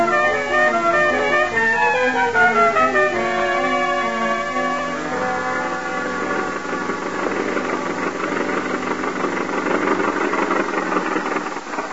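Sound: car engine running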